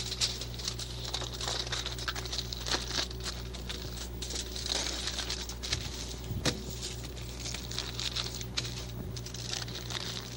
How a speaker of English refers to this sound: This is shiny paper. I'll just cover this little paper with some shiny paper.